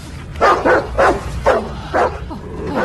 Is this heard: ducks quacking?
no